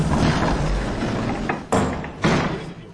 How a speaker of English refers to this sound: Oh, Rose. Oh, Rose, he saw us. Rubbish, why would he slam the doors on us?